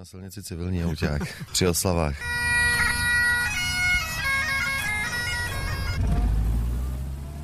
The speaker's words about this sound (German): In Tschechien ist es etwas Besonderes, wenn man auf der Straße einem Fahrzeug aus dem Zweiten Weltkrieg begegnet.